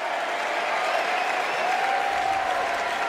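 crowd applauding and cheering

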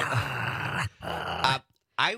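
dog growling

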